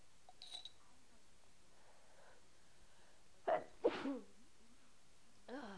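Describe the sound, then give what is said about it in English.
A single big sneeze from a mother feeding her child bursts out, a sharp breathy explosion with a quick trailing gasp, against otherwise quiet surroundings with faint background noise. “Oh, big sneeze. Yeah, Mommy had a big sneeze.”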